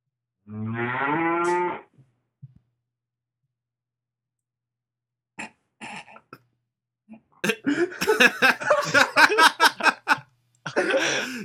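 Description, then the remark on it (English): A single drawn-out cow moo, tinny and band-limited as if over a phone line, lasting about a second, followed by a long pause and then people talking. “It's funny because it's a cow.”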